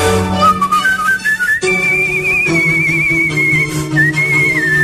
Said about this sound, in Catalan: També va aparèixer el vostè primer del Marc Giró, que van venir amb la xiuladora professional